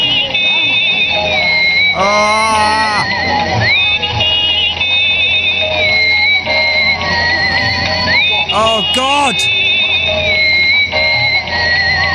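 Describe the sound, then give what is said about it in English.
A loud, annoying electronic toy of a bloke on a little green motorbike that moves around: shrill synthetic tones that hold and step in pitch, broken twice by warbling, whinny-like sweeps. A man briefly exclaims over it. “This is a bloke on a little green motorbike, right? Kind of moves around a little bit.”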